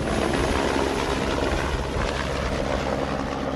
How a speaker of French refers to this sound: Voilà l'hélicoptère. C'est pour nous, hein. C'est pour nous, donc on va y aller.